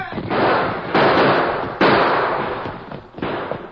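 Loud, sharp blasts of gunfire erupt in quick succession, each crack followed by a long, rumbling roar that fades before the next shot, about four bursts in all.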